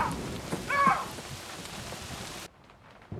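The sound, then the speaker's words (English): Heavy rain lashes down at night in a cottage garden, a dense, steady hiss with a low thunder-like rumble underneath as lightning strikes, then cuts off abruptly near the end, leaving near silence. No one speaks. “That night, as rain lashes down, he carries the for sale sign down to the front wall of the garden.”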